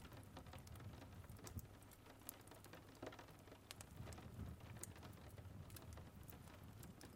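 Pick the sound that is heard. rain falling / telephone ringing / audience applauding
rain falling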